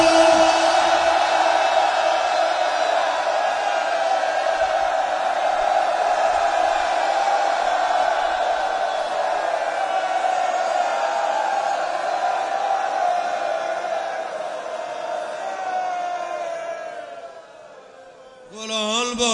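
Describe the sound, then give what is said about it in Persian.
A large crowd shouts the name "Hussein" (Imam Hussein) loudly in unison, drawing it out into one long sustained cry that holds for many seconds before fading, then briefly rising again. “هرچی قدرت داری میخوام اینقدر بگی و بکشی تا بره سرمش. از تو بیدای دل فریاد بزن و بگو حسین.”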